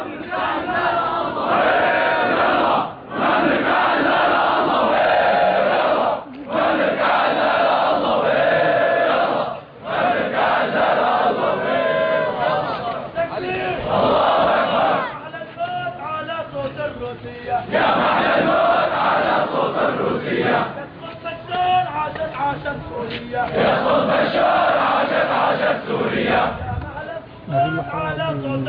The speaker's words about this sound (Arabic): إذا مشاهدي الكرام، كان هذا جانبا من مظاهرة الأحرار في مدينة عنادان في ريف حلب، وهذه المظاهرة المسائية